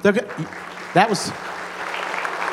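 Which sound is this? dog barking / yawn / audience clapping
audience clapping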